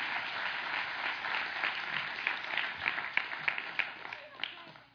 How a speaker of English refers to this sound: So let's give these guys a round of applause. This is what a servant looks like. Thanks, guys.